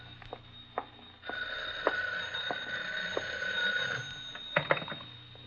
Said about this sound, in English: Phone? Yeah, all right, we're getting it.